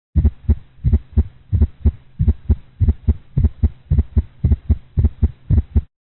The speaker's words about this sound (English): For comparison, listen again to the clinical example of an atrial gallop sound in a dog. You may need to move back and forth between these sounds until you can reliably distinguish their timing and character.